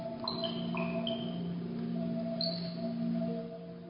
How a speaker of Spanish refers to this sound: yo estoy moviendo mis manos frente a la cámara de la computadora y detecta el cuerpo y genera algún pulso que excita los algoritmos, y es lo que ustedes están escuchando.